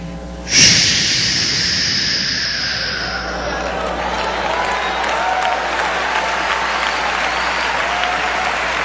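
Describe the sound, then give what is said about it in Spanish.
An audience bursts into applause, a dense, steady wash of many hands clapping that starts suddenly and carries on strongly for several seconds, loud. “Ahora, ya va a aplaudir, escuche bien.”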